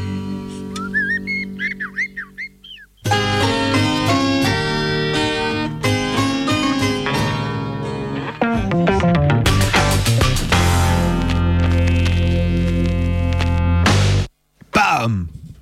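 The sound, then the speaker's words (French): A short, loud show jingle opens with a few bright whistled chirps, then bursts into a full, punchy instrumental passage that cuts off abruptly near the end. “Jingle, bam, c'est bon. Jingle, et bam.”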